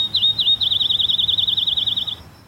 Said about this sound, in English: Maybe we should just play some birds right now. Let's play a bird sound.